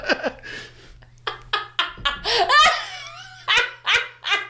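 A dog barks loudly in a quick, uneven series of sharp yaps, one stretching into a higher whining yelp midway, all over a faint, steady low hum.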